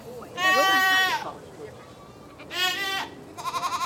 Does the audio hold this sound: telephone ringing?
no